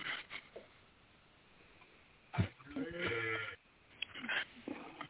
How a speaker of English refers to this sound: Who's got a cow? Or is that not a cow mooing in the background?